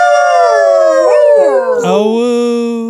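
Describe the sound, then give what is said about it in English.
A single loud howl holds steady for about three seconds, wavering in the middle before its pitch slides down into a lower drawn-out tone, with no other sounds around it. “Howl noise.”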